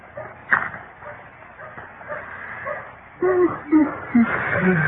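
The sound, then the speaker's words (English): A dog whimpers, giving a few short, high whines one after another in the latter half, over a low, murmuring background. “This dog sure ain't very lively today, is it?”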